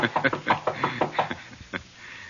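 Someone knocks on the door of apartment 212 in a quick run of about eight sharp raps, then one last knock after a short pause. The knocks are moderately loud, with no voices.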